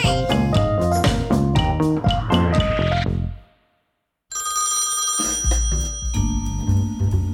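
telephone ringing

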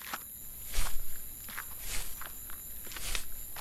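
footsteps walking outdoors

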